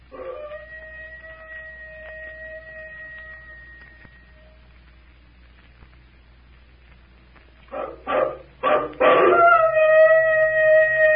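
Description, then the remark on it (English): A long, steady, high-pitched howl like a werewolf's call, coming from inside a temple, fades out, followed by a pause, then several short rising yelps that swell into a second, louder sustained howl responding to the call, with no talking. “Somebody's responding to the call. I hope nobody in this room's a werewolf.”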